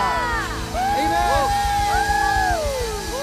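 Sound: audience cheering loudly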